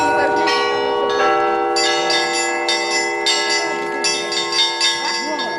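Church bells of the Nikolsky church in the village of Novye Berezniki, Dalnekonstantinovsky district, ring continuously after the service and prayer service on the feast of the Kazan icon, with overlapping strikes of several bells sustaining a dense, shimmering tone; a faint murmur of voices sits underneath.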